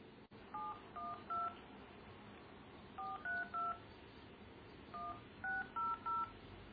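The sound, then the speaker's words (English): Telephone keypad dialing tones as someone calls back in to a conference call: three bursts of three short, steady dual-pitched beeps each, separated by pauses of about a second and a half, over a low background hiss. “Okay, so I do a slash and call in again.”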